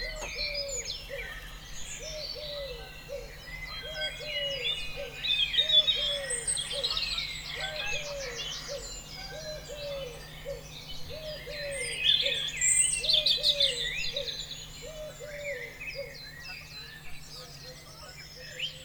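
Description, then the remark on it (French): A dense dawn chorus of many birds singing and chirping at once, with a steady, repeated low cooing call pulsing underneath throughout, continuous. “On va prendre le temps de se réveiller ensemble avec des chants d'oiseaux.”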